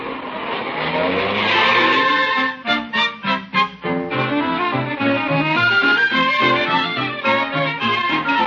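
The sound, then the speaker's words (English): A car drives with a loud, steady engine roar, broken midway by a few rapid surging pulses and a squealing, tonal whine from the tires. No one speaks. “Yeah, I'll let you out at the door, Grace, and go park the car.”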